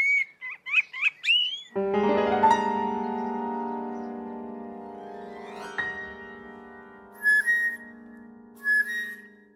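A blackbird's quick fluting, warbling phrase opens, then a long steady droning tone takes over, with two brief bright chirps breaking through near the end.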